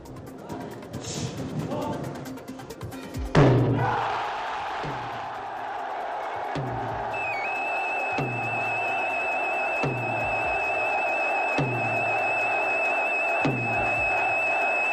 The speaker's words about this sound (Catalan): Ja el sentiu i segur que el reconeixeu, és el primer toc de Fabiol. Ha sonat fa uns minuts i ha fet esclatar l'eufòria a Ciutadella, on ja han començat de manera oficial les festes de Sant Joan.